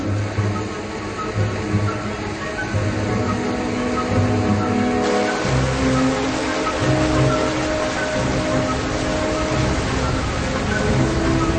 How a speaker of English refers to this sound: And without warning, the water suddenly plunges down an open shaft, falling a vertical mile into the heart of the ice sheet.